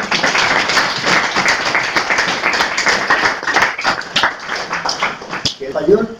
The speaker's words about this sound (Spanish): Damos un aplauso.